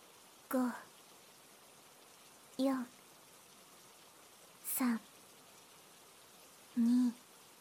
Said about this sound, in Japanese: よく眠れるようにおまじない。この雨を聞いているととっても眠くなるよ。